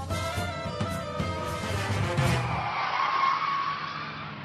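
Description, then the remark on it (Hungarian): A car engine revs and pulls away at night, heading toward Boulevard Victor Hugo, its pitch climbing steadily as it accelerates, with a brief tire squeal partway through. Fairly loud, with no talking. “tehát elindult autóján a végzetes útra.”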